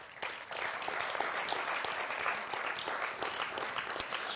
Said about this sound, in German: Und an dieser Stelle einfach immer ein riesiges Dankeschön an Technik, an Aufnahmen, Team, an die, die das ins Internet stellen, dass wir hinterher diese Predigt noch hören können und dafür einfach mal einen dicken Applaus an euch.